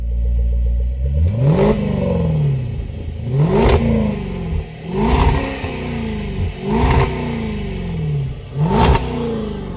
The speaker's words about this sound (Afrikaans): As daai V8 begin brul, dan kan jy nie help om hom net dieper en dieper dieper te trap nie